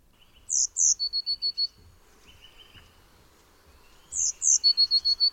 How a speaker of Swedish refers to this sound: Men vi gör som vi brukar och börjar med att repetera förra veckans fågel. Det var ju den otroligt gulliga blåmesen.